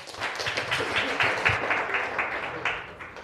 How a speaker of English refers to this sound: Can we give him a warm round of applause, please?